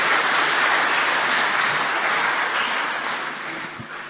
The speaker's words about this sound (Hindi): नए वर्ष की आप सबको बहुत बहुत बहुत शुभकामनाएं, ताली बजाएंगे जरूर।